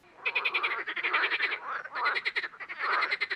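A frog croaks in rapid, rattling pulses, three or four bursts running almost continuously with only brief gaps, fairly loud and clear with no voices.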